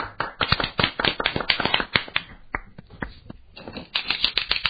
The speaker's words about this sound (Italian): Ecco la applauso. Abbiamo la clac.